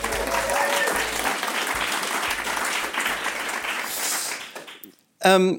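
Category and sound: crowd, audience applauding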